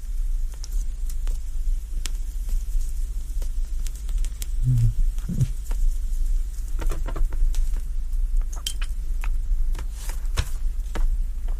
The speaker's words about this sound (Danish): Og jeg tænder lige cigaren igen. Nu kan jeg jo få tid til at ryge lidt på den for alvor.